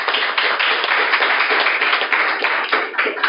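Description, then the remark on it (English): A studio audience in Salt Lake City claps half-heartedly for a few seconds, a steady, moderate patter of many hands with no cheering, no voices and no build in intensity. “that was not an enthusiastic clap. That wasn't even a golf clap. That was a fake clap.”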